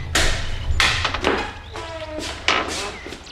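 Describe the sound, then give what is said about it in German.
A door knocker raps against the plain door of the Buddhist Center in Rocky Beach in several loud, sharp blows at uneven intervals, with faint ringing tones lingering between the strikes. “Justus betätigte den Türklopfer.”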